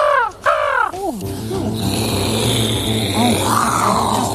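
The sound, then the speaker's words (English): A voice imitates a jet with the mouth: a few harsh, squawking bursts, then a steady, rough roar topped by a high, thin whine that holds and swells toward the end. “Oh, just like a jet.”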